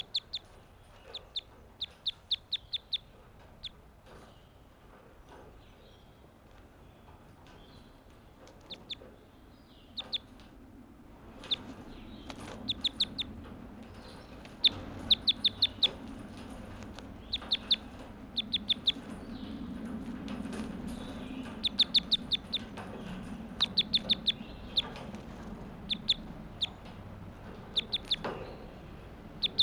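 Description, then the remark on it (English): A bird calls over and over in short, sharp, high-pitched bursts, clucking and chirping in irregular clusters throughout, over a steady low rumble with no talking. “We call this bird 85.”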